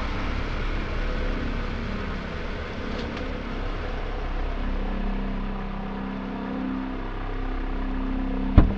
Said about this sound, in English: Keep the high beams on so I can see, but don't kill the engine. I won't be long.